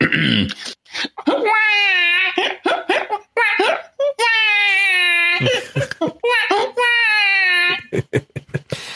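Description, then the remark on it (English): A person's voice mimics a bawling baby, with three long, wavering wails broken by short sobbing gasps, loud with no other sounds. “Here's my impression of Jeff complaining about not being able to use his device one-handed.”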